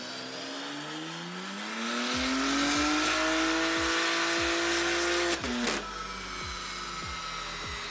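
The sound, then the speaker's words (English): A BMW M3 engine with SSR race exhaust pipes, a custom E85 tune and port injection roars on an in-house dyno during power testing, its pitch climbing steadily to a loud, sustained high-rev wail before briefly cutting out and resuming, with rhythmic low thumps underneath and no talking. “This specific M3 right behind me is gonna be equipped with our SSR race pipes, a custom E85 tune”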